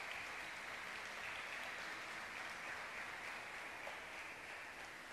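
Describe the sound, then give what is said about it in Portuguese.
An audience applauds for Jesus in a steady, dense wash of clapping that holds at an even level for several seconds, with no voices rising above it. “E dê uma linda salva de palmas para Jesus.”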